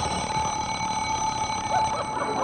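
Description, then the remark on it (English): An alarm clock rings continuously and loudly for the whole moment, a steady, shrill metallic ringing with no pause and no voices over it. “I must have hit the button on my alarm clock.”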